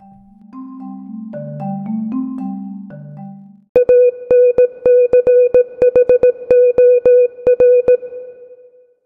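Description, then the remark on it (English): A brief theme tune with layered tones gives way to a steady high beep keyed in rapid Morse-code-like pulses, loud, with no voices. “I'll see you after the music.”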